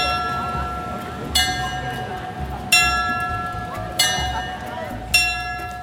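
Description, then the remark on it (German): The world-famous glockenspiel of the Zeitglocken clock tower rings out on the full hour, its bells striking four times at a steady, unhurried pace, each chime ringing and decaying over a faint murmur of numerous tourists gathered in front of the tower in the open air. “Das Handy ist schon parat in Hang, um das weltberühmte Glockenspiel auch ja nicht zu verpassen.”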